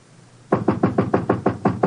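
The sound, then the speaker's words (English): A steady run of about eight firm knocks on an apartment door, evenly spaced and fairly loud, starting after a brief quiet moment with no voices. “Sorry, I knocked and when you didn't answer.”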